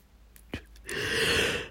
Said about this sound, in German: Mein Hirn entspannt sich schon wieder. Gähnen ist ja auch was Positives. Muss ja nichts Negatives sein.